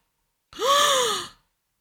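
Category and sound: human body sound, sharp gasp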